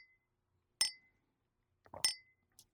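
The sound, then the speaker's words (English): Two bright clinks of a drinking glass holding a grapefruit drink, as someone goes back to the glass for a taste, about a second apart, each with a short ringing tone, plus a faint extra tap after the second; no voices. “whereas Copenhagen back to the glass”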